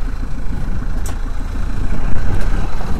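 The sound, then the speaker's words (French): A sailboat engine idles with a steady, throbbing low rumble that runs unbroken for the full few seconds, moderately loud, with no voices. The boat is an old traditional rigged vessel, a former shellfish boat from the roadstead of Brest, France; the mainsail is hoisted and the engine is about to be cut. “Donc du coup je vais couper le moteur.”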